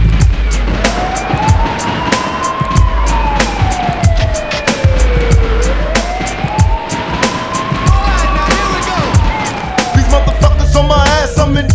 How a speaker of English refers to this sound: Is it a bust? I hear the sirens, run for cover.